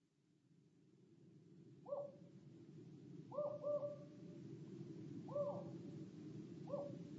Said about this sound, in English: Outside, an owl shrieked.